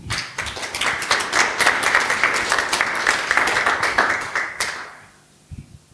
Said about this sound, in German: Ich bitte euch um einen herzlichen Applaus für Rena Tangens von Digital Courage.